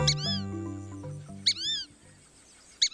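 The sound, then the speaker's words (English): A fulvous whistling duck, a lanky brown bird, gives three high-pitched, wheezy whistled calls at roughly even intervals, the first sounding over soft sustained music that fades away after about a second and a half. “The fulvous whistling duck is a lanky brown bird with a high-pitched call.”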